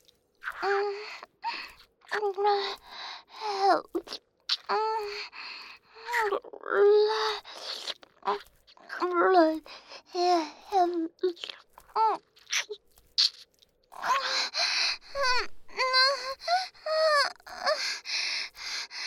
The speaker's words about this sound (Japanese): どうしたの？泣いてるの？かわいいのね。でもそれじゃあなたのかっこいいお顔が台無しよ。